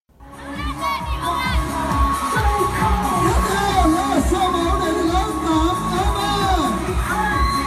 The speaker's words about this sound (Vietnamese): Sau phần văn nghệ chào mừng cùng những màn reo hò cổ vũ của toàn thể học sinh nhà trường, vòng sơ khảo cuộc thi cùng Đức Việt trở thành trạng nguyên tuổi 13 chính thức bắt đầu.